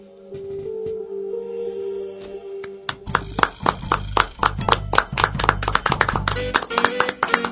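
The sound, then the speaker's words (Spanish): A steady low hum holds for about three seconds, then loud applause breaks out: sharp, rapid, slightly uneven hand claps that keep going to the end. “Aplausos para vos, aplausos para vos, aplausos para vos.”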